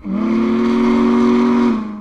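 The whistle of Union Pacific's Big Boy 4014 steam locomotive in West Texas gives one loud, steady blast lasting nearly two seconds, a rich low-pitched tone with a slight rise at the start, heard alone without voices.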